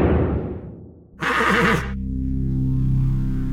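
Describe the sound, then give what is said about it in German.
A horse lets out a loud whinny lasting under a second, shrill and wavering, between a fading rumble before it and a steady low drone afterward, in a mock car-style advertisement for a horse. No one speaks. “Mehr als nur eine Pferdestärke, unglaubliche Höchstgeschwindigkeit, nur 4 Scheffel Heu auf 100 Kilometer.”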